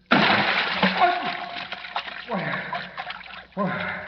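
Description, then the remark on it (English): In a radio drama, a sudden heavy splash as Batman plummets into a deep vat of ice-cold water, followed by continuous sloshing and churning, with a man's voice gasping and sputtering over the noise. “Batman, plummeting down through inky black space, lands in a deep vat of ice-cold water.”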